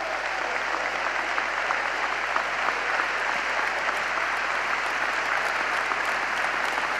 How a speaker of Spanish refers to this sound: Pero quiero pedirles un aplauso más. Quiero pedir un aplauso muy fuerte para nuestro Premio Nobel de la Paz, Adolfo Pérez Esquivel.